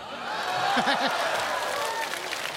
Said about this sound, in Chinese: 什么道具这么重要啊？ 观众的热情。 怎么开始学会要掌声了呢？